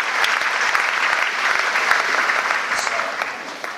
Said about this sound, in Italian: Alleluia. Alleluia. Date al Signore un grande applauso. Alleluia. Grazie, grazie.